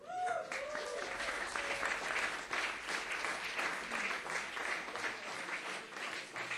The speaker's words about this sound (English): You haven't heard him yet, so don't clap too loud.